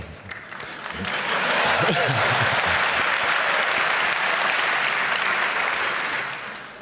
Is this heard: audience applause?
yes